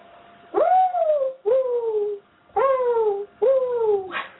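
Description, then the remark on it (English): A person imitates a mourning dove's cooing with four breathy hoots, each swooping up then sliding down, paced in a steady, slightly uneven rhythm. “I think her morning dove is a little struggling.”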